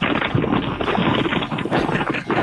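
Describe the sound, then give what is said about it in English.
A box full of rolling papers being shaken, giving a loud, steady papery rattle and rustle that keeps going for a couple of seconds with quick uneven pulses and no voices. “That's what a box full of rolling paper sounds like, baby boo.”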